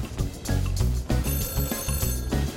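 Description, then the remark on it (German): A telephone rings on the bridge of a ship in Hamburg, in repeated bursts with a steady, buzzy electronic trill, loud and clear with no voices over it. “Mann, Leute, was klingelt denn hier die ganze Zeit?”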